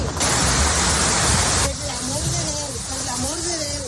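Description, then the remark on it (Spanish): Loud, steady roar of rushing floodwater after a bridge has broken, flooding everything and threatening a house, fills the whole recording unbroken; partway through, an agitated voice speaks over the churning torrent. “Se ha roto el puente, se está inundando todo.”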